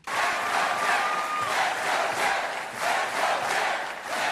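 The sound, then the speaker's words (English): A large crowd chants "Let's go, Jeb" in unison, loud, the shouting rising and falling in a steady repeated rhythm with brief dips between phrases, as former Florida Governor Jeb Bush officially enters the 2016 U.S. presidential contest. “The crowd shouted, "Let's go, Jeb," today as former Florida Governor Jeb Bush was officially entered the 2016 U.S.”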